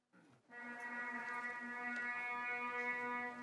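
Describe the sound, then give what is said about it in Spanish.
A shofar, a ram's horn, is blown in one long, steady blast in the colonnaded courtyard of the Basilica of St Paul Outside the Walls, Rome, opening the ceremony of the Holy Door for the 2025 Jubilee: a loud, low, brassy tone rich in buzzing overtones, held without a break after a short rough start. No one speaks. “La ceremonia comenzó en el patio de columnas de la basílica con el sonido ancestral de un shofar, un cuerno de carnero utilizado tradicionalmente por los israelitas para anunciar los años jubilares, tal y como se recoge en la Biblia.”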